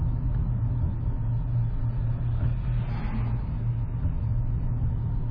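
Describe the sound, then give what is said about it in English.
A dump truck rumbles loudly as it passes close by, almost hitting the speaker, in a small town in the South; its deep engine drone is steady throughout with a brief swell of higher road noise midway, no voices present. “Almost hit by a dump truck.”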